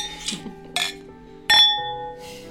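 household object, glasses clinking

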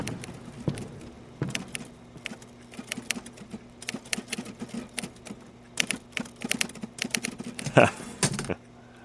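household object, typing on a typewriter

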